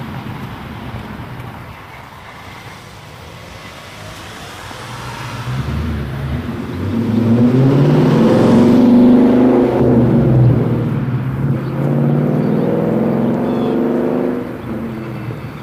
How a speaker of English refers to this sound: Car making that racket.